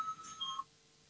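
A short electronic voting bell in a parliament chamber, rung to call a vote on an amendment proposal: a few steady, high beeping tones in quick succession, fairly quiet, ending abruptly with no voices.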